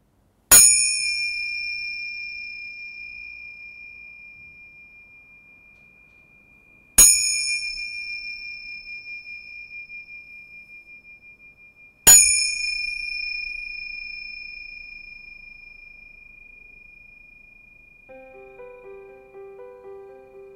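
A bell is struck three times to start and end an exercise, each clear, bright ring left to sustain and slowly fade before the next strike, with long quiet gaps between and faint soft tones entering at the end.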